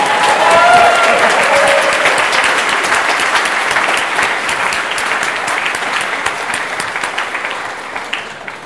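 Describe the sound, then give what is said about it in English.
An audience at the Pioneer Awards applauds steadily, a dense, loud patter of many hands clapping that holds for several seconds and then slowly thins out toward the end. “Let's just applaud him one more time.”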